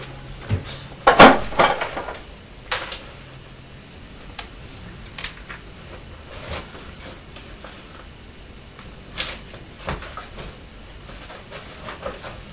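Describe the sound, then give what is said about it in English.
A plastic part of a fridge falls off again and clatters in a quick burst of sharp, rattling knocks, followed by a few scattered light clicks and taps against a quiet background. “Is that part of a fridge?”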